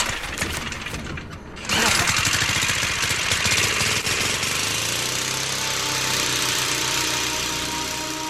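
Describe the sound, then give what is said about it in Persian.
A motorcycle engine putters in a rapid, chugging rhythm as riders get on to set off, then surges louder and settles into a steady roar that runs on without any voices. “پس زودتر سوار موتور بشیم بریم دیگه.”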